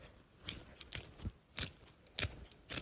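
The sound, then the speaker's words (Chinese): Scissors cut through clothing fabric in a series of crisp, sharp snips, about six in all, with irregular spacing and soft rustling between them. No one speaks. “这衣服都是些什么呀，这么保守，怎么能配得起你这副骚样呢？老娘帮你改一改。”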